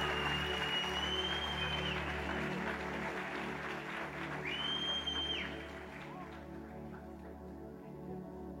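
A Brasa Church crowd gives a warm round of applause welcoming a guest, clapping in a dense, steady burst with a couple of sustained high whistle-like tones over it, then the applause thins and fades over the last few seconds.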